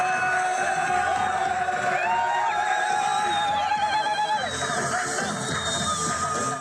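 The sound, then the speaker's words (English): A crowd in Khan Yunis, Gaza, cheers in celebration after an Israel–Hamas deal was announced, many voices shouting and whooping together with rising and falling high-pitched calls, loud and continuous throughout. “Cheers are replacing the sound of bombs in Gaza's Khan Yunis.”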